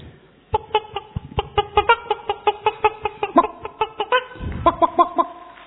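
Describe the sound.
A person imitates a hen waking a rooster in the morning, with a rapid, steady run of short, throaty clucks, clear, pausing briefly before a final burst of clucks.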